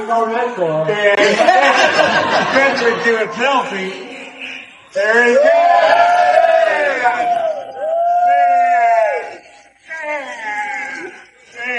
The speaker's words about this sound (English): He puts it on, and the crowd roars.